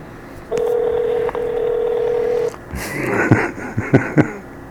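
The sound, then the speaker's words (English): A steady telephone tone hums for about two seconds, then stops, followed by a handful of short, clipped beeps and clicks like keypad dialing, clear, as a call is being added on a phone. “Now I can't add a call for some strange reason.”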